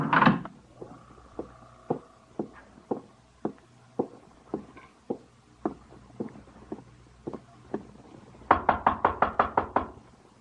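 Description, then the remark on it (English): Steady knocking on the door of hotel room 812 on New Year's Eve, sharp wooden raps about twice a second, ending in a rapid, louder burst of about seven hard knocks. No voices are heard. “Open the door. Lomax. Break it down. Break down the door.”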